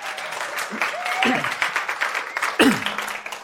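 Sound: audience clapping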